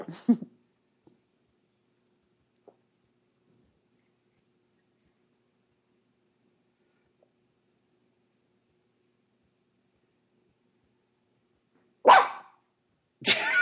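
A dog barks sharply a few times with long silent gaps between, one bark at the start and two loud barks near the end.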